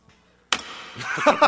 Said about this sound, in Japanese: キーボードをね、いつもいい感じで叩くんですよ、この、こういう、 はい、キーボードの叩いた音聞かせてくださいよ。